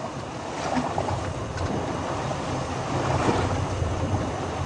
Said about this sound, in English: That's that big boat coming. I hate to fish in this rough water, but you always catch something in it.